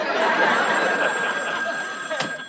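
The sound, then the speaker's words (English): A telephone rings with a continuous, loud metallic bell trill that carries on without a break for a couple of seconds, clear. “Would you give me that phone?”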